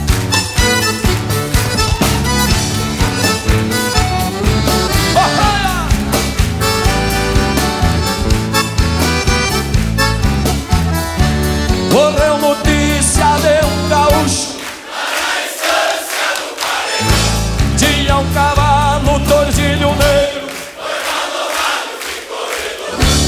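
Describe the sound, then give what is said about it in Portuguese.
A loud live band plays a lively tune while the audience, asked by the singer, claps steadily and strongly along to the rhythm of the song, the clapping blending into the full, dense music. “E no ritmo da canção, as palmas, vamos ver. Bem forte, vamos ver.”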